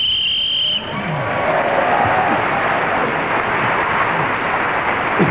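A brief, shrill whistle gives way to an extra loud burst of enthusiastic audience cheering and applause, prompted by the way the whistle was blown, that roars on steadily for several seconds.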